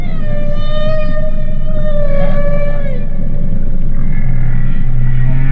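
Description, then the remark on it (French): Humpback whale song: a long, drawn-out tonal moan with rich harmonics that slowly bends in pitch, over a steady low underwater rumble, followed by shorter higher calls near the end. “Ce chant si particulier des baleines à bosse, hein, on dirait presque parfois des chats qui ronronnent.”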